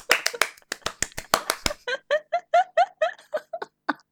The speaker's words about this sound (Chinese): 鼓掌。